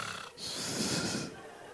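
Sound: imitated snoring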